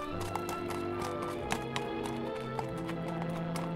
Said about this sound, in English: Here he comes now, the protector of the plains. Hark! Can you hear his footsteps?